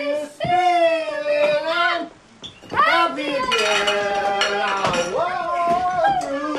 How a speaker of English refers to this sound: Rain pours outside the Marvin's house. Leo glares from the couch as Bob and the rest of his family toss dishes to each other.